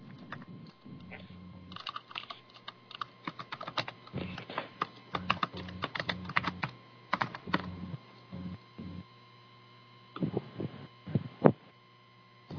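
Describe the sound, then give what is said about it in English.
Rapid, irregular clicking of keys on a computer keyboard, with bursts and short pauses, over a steady low electrical hum; the typing sounds fairly clear. “You don't want to say who's typing?”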